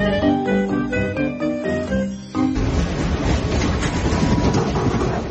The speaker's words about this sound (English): The train to Cairo tracks close to the Nile.